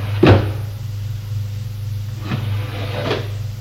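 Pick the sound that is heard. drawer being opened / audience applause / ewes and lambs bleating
drawer being opened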